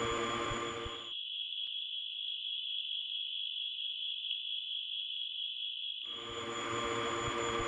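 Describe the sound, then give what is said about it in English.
A noisy carrier system recording: harsh, buzzy noise cuts abruptly to a thin, steady band of hiss filtered to the 2900 to 3500 range, humming on evenly for about five seconds, then the full noisy signal snaps back. “That just sort of sounds like filtering byproducts.”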